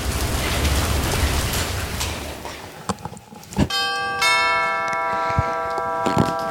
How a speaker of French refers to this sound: mais je dois faire vite parce que je suis sous la pluie.